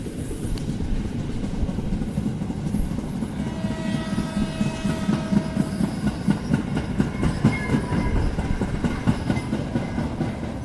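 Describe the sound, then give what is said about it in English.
A train in Sri Lanka rumbles steadily along the rails through the jungle and along the coastal road, fairly loud, with a rhythmic clickety-clack of wheels and faint metallic squeals rising midway, no voices. “Rumbling train took me through the jungle, along the coastal road, little shots occasionally through the palm trees of crystal blue turquoisey waters”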